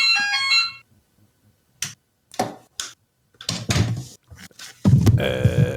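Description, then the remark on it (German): A doorbell ringtone chimes for under a second, a bright run of stepped electronic tones, then stops, followed by scattered clicks and knocks and a louder rustling burst at the end. “Das ist aber ein ganz angenehmer Klingelton.”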